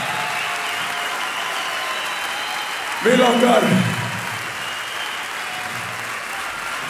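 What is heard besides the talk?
audience applause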